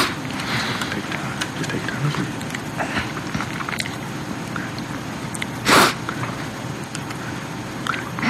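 A steady bed of murmuring background noise and faint voices in a courtroom, broken near the end by one sharp, breathy sniffle from the defendant as the judge begins reading a murder charge, the sniffle standing out louder than everything around it.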